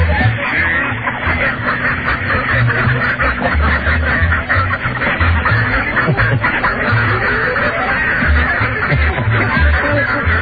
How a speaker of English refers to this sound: Okay. A total of 55 quacks for Puddle Jumper. Fantastic.